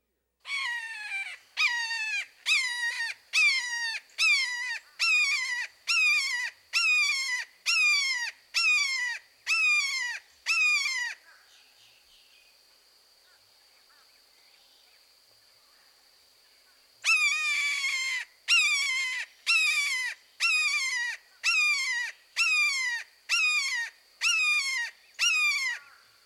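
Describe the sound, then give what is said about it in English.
A red-shouldered hawk gives loud, repeated two-syllable keer calls in a steady series, pauses for several seconds with only a faint high whine, then resumes the same rapid run of calls. “Now listen to the red-shouldered hawk. His call is similar to the red-tailed hawk, but often consists of a repeated, two-syllable, keer, keer, keer.”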